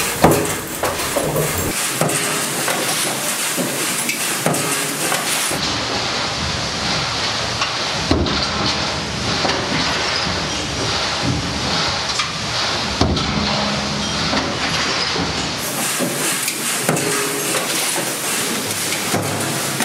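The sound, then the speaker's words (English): A servo press machine runs loudly and steadily, with studs fed in through tubes, making a dense mechanical roar, broken now and then by a few sharp punching knocks as it punches a thick part. No one speaks. “So the studs are coming in those pipes, and they're being fed in directly.”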